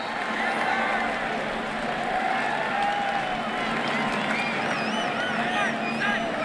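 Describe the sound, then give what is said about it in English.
A big stadium crowd at a USC football game roars and cheers as Jake Olson snaps for an extra point, a loud, unbroken wall of noise for the whole stretch, with a few shrill whistles rising over it toward the end. “Listen to the crowd.”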